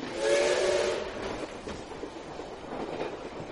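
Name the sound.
train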